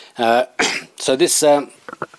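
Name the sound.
cough and throat clearing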